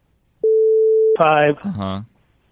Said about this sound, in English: We'll bleep this out.